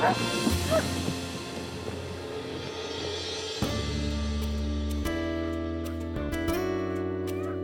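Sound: puppy barking and yipping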